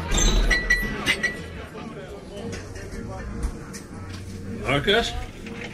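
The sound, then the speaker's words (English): A drinking glass clinks several times as it is picked up and collected from a guest, bright sharp taps over a busy, murmuring room of background chatter. “Mind if I grab that glass off you, ma'am?”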